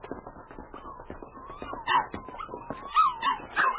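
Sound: puppy whimpering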